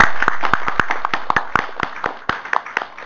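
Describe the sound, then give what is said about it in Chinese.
An audience claps together to praise God and give thanks for mothers, a steady wash of many hands with sharp individual claps popping out irregularly, fairly loud and continuous for about three seconds with no voices. “我们大家一起来鼓掌，我们感谢我们的父神把这些妈妈们摆在我们家里，把我们自己边上的母亲来帮助我们教养孩子，我们鼓掌来赞美神，感谢。”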